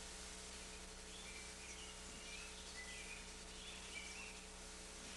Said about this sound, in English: There's the calling of birds, isn't there? It's there, isn't it? Just to listen.